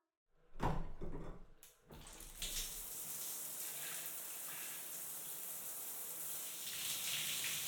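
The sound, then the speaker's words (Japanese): A few hollow knocks and clunks, then water pours steadily, a continuous rushing spray as soap foam is rinsed off a body, with no voices. “体についた泡、洗い流しちゃおっか。”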